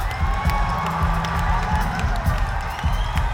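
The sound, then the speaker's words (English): A large audience screams "Oh fuck" together on cue at full volume, a dense roar of many voices that holds steady and loud for a few seconds without fading. “If I go like this, four of those, you're supposed to grab your hand as if you just sliced your finger off and scream, "Oh fuck," at the top of your lungs.”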